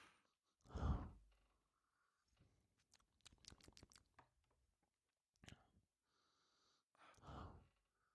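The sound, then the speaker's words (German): Breathy sniffs and snorts while nosing a drink of Buchladi, two heavier puffs of air with faint clicks and small mouth sounds between them, with no talking. “Bisschen schnüffeln und schnaufen auf der Aufnahme macht sich immer gut.”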